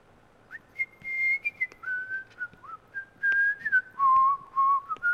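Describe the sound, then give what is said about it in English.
Someone whistles a wandering tune, holding a series of clear, sustained notes that slide between pitches, with short breaks between phrases and no talking. “No whistle, no hum.”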